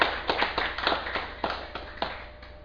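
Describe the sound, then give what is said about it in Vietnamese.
An audience at a Buddhist dharma talk on 17 November 2007 applauds with fairly steady, distinct claps at a moderate level from a small group. The claps gradually thin and fade over a few seconds, with no talking. “Xin quý vị vỗ cho một tràng vỗ tay.”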